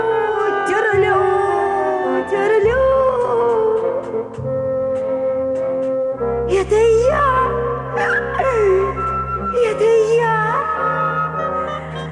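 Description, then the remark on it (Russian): The character Muffin sings in long, wobbling, sliding tones that rise and fall like a dog's howl, carried over a steady low accompaniment for several loud phrases. “Маффин, по-моему, где-то терзают собаку. Разве ты не слышал, как она выла?”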